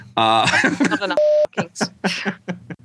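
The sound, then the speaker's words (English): A loud, steady censor bleep, a single pure tone lasting about a quarter second, covers the F word in the middle of someone's speech, with talking right before and after it. “I hate putting all those beeps in.”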